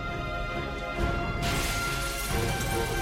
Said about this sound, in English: The glass shatters and Hancock bounces off a bus on the street below.